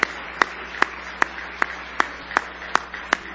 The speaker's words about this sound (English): Now give him a big hand clap of praise. You love him tonight with all your heart.